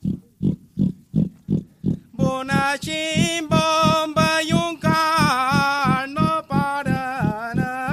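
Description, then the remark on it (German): Iberian pigs grunt and smack in a quick, steady rhythm as they eat acorns lying in the grass at a holm oak on a clear autumn morning; after a couple of seconds a louder, sustained tonal squealing rises over the continuing grunts. “In gebührendem Abstand von den Besuchern halten sie an einer Steineiche und machen sich schmatzend und grunzend über die im Gras liegenden Eicheln her.”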